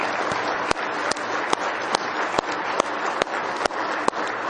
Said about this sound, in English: Now let's give our Lord Jesus a good hand clap of praise. If you love Him tonight with all your heart.